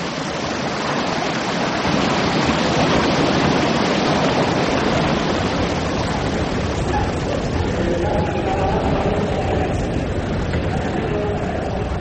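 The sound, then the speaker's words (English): A continuous, loud roar of Atlantic Ocean surf washing onto a shore, a dense wash of churning water that holds steady throughout without distinct pauses between breakers. “Listen to me, you bloody old Atlantic Ocean.”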